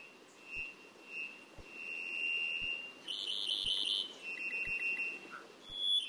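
A Cuban vireo, a green songbird, sings alone, repeating high, thin whistled phrases with buzzy, chattering notes above them, over a steady hiss and faint low thumps about once a second.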